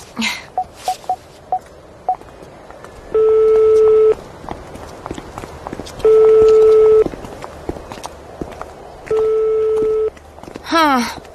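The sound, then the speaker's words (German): A mobile phone is dialed with a short run of beeping key tones to call a friend, then rings three times with steady, evenly spaced tones. No one picks up, and soft background noise runs throughout. “Ja, ruf ihn noch mal an.”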